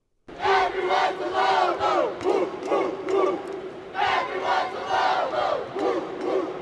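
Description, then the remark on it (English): A large arena crowd at a March Madness college basketball game chants loudly and in unison, rhythmic shouted phrases swelling and repeating over a continuous roar of cheering that fills the space without pause. “You know, March Madness isn't just screaming crowds and grown men and women chanting things like the University of New Mexico's "Everyone's a Lobo, woof, woof, woof."”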